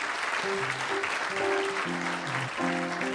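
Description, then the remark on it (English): An audience at the What Do You Know quiz claps steadily for the whole few seconds, a dense, even wash of applause, with faint low tonal notes shifting in pitch underneath. “Well, thanks for the applause, but I need someone to raise one of those hands indicating an interest in the you are the first.”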